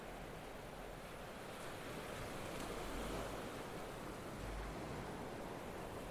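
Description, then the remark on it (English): A steady, hissing wash of ocean waves breaking on shore, with soft surges swelling and receding every couple of seconds. No voices, just the continuous rush of surf. “He acquired a fiddle from somewhere and would sit outside his door, looking out at the waves, playing tunes to the tides.”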